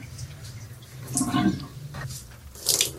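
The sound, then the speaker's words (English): Wet clothes, including a t-shirt, being wrung out in soapy shower water by a woman doing her laundry while showering, with two bursts of squishing and splashing water over a steady low hum and scattered drips. No one speaks. “And I start wringing out these clothes.”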